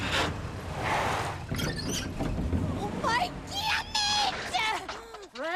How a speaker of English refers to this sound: A beat-up bus rolls closer, spewing smoke from its exhaust.